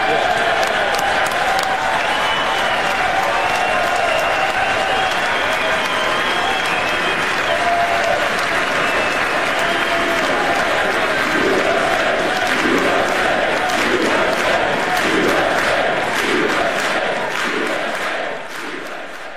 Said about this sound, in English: I did try to cut down on the cheering. It actually went on for 2 minutes in the house